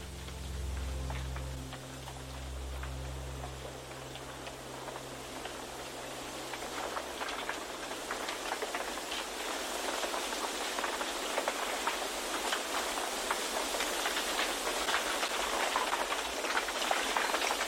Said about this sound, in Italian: Quando il vento comincia a soffiare, il bambù risponde con un concerto delicato e ipnotico, come se volesse sussurrarti un segreto.